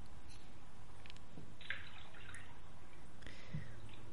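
bath water splashing

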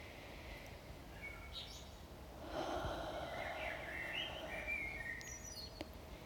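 birds chirping outdoors

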